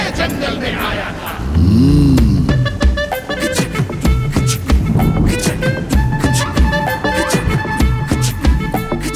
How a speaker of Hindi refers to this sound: गाड़ी स्टार्ट करके घने जंगल में आया था।